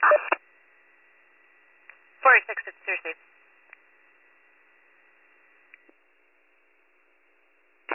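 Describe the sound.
Radio dispatch paging tones dropped to cancel other responders: steady high-pitched electronic tones run through the whole stretch, broken by short choppy bursts of radio-filtered voice and clicks.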